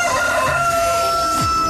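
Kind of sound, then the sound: bird, rooster crowing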